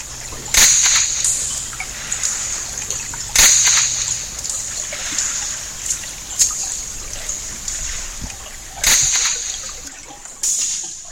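Sharp, whip-like cracks snap out underwater as a zander sneaks up from behind and stuns its prey, a small fish, at midnight in summer; four sudden loud bursts at irregular intervals over a steady hissing background, with no voices present.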